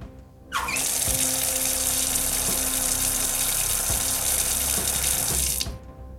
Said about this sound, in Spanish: Uy, vaya grifo más raro que me han puesto hoy.